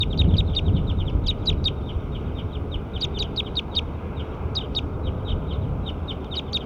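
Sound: bird calling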